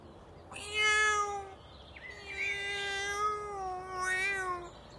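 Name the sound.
cat meowing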